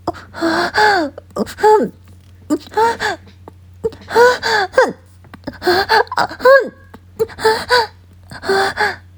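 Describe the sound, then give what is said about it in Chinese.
A woman pants softly and moans in a steady rhythm on a bed, breathy voiced gasps repeating roughly once a second, over a faint low hum. “轻声喘息着”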